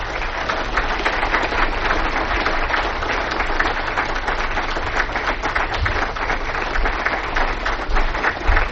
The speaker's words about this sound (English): Let's have a welcoming round of applause for Grant McMurray.